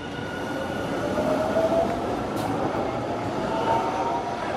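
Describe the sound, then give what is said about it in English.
A train rumbles steadily and loudly at the Mission Station in South Pasadena, California, its broad mechanical roar with faint whining tones filling the whole moment, and a brief hiss rising about halfway through. “Well, we are here at the Mission Station in South Pasadena.”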